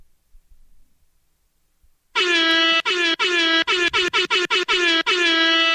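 A loud, blaring air horn kicks in after about two seconds of near silence, sounding in a rapid series of sharp blasts with brief choppy gaps, harsh.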